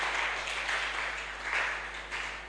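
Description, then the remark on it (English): A crowd at a Christian sermon applauds steadily for salvation, many hands clapping at once in a dense, continuous wash of sound that swells slightly a few times without any voices over it. “Can you clap for the salvation that you and I are enjoying free of charge?”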